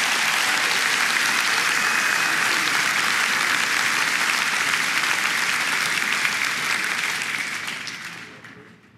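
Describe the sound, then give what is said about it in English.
Sustained audience applause for the nations Argentina, Hungary, Micronesia, Nauru, Palau, Papua New Guinea, Paraguay and Tonga: a dense, steady wash of many hands clapping at high volume that holds for several seconds before gradually fading out at the end. “Give those nations a big applause.”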